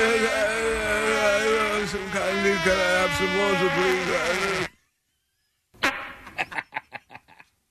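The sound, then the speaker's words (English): A long, loud, buzzy fart drones for several seconds, then after a brief silence a quick series of short sputtering bursts follows, clear throughout. “Trying to cover up the sound of your fart?”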